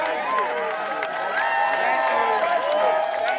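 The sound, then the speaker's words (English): A crowd applauds and cheers steadily as protesters march into the General Assembly building, many voices shouting and whooping over a continuous patter of clapping that holds at a fairly loud, even level throughout. “To applause, they march into the General Assembly building.”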